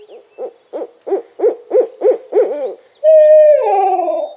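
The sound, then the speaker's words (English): An owl hoots about eight times in a steady, evenly spaced series, clear, then gives a longer drawn-out wavering call. No one speaks. “You've no doubt heard all the neat ways that Owl can hoo-hoo-hoo.”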